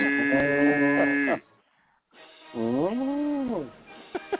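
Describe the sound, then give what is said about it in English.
Two long, drawn-out cow moos, loud, the first steady and the second rising and falling in pitch, separated by a short pause, with a couple of faint knocks at the end. “Yeah, dude, the cows didn't give a fuck.”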